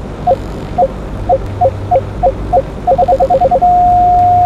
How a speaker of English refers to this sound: The correct time to shoot is when the beep is continuous. This is the sound you will hear.